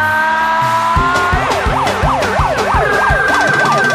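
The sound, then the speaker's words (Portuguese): A loud siren wails in quick rising and falling sweeps at an axé band's show, riding over a steady pounding drum beat that kicks in after the first second. “Ela chega ao som de batidas de panelas, com o vocalista cantando num megafone e uma sirene agitando a galera.”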